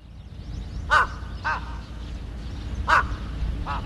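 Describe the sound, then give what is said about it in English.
Crows circling overhead at Kesennuma, a fishing port in Japan, caw in four harsh, separate calls spaced about a second apart. The calls are moderately loud against a steady low rumble of outdoor background noise. “Ominously, overhead, crows, not seagulls, circle.”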